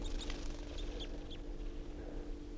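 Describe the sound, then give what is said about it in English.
Several short, high-pitched calls from three wild birds at the top of a pine ring out in quick, irregular succession over a steady low hum and background noise, with no one speaking. “And that tupper was just joined by another wild bird. And another, and a third.”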